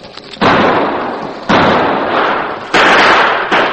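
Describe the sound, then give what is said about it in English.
A loud barrage of shotgun and six-gun revolver fire as killers rush forward shooting into blanket-wrapped sleeping men on a mountainside, in a Lone Ranger drama: sharp blasts about once a second over a continuous roar of rapid shots, and no voices. “The killers rushed forward, pouring deadly gunfire into the blanket-wrapped figures.”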